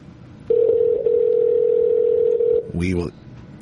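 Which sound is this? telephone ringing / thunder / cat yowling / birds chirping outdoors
telephone ringing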